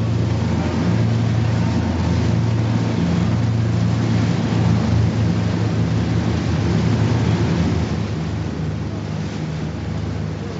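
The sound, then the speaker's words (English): A boat's engine drones loudly and steadily, its low hum gradually easing and quieting toward the end under a wash of rushing wind and water noise. “Hear the engine spooling down.”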